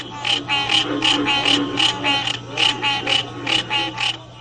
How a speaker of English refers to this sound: The recorded sounds include that of the pig frog, American bullfrog, spring peepers, and others.